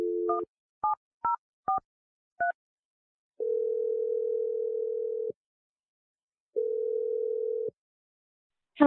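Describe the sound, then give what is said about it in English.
A brief dial tone gives way to four quick keypad beeps as a phone number is dialed, followed by two long, steady telephone rings separated by a pause, clear with no voices. “I'm going to dial the phone number. We're going to call Avery”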